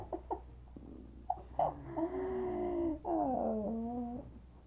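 A dog whimpers in drawn-out, high, wavering whines, the pitch sliding up and down, preceded by a few short sniffs or yips; clear, with no talking.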